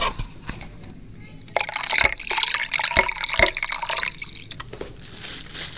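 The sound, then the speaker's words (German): Someone jumps into the water on a count of three: water splashes and churns loudly for several seconds, with a burst of splashing starting abruptly and sharp slaps of water standing out, then settling into a softer wash. “Wir springen bei 3 ins Wasser.”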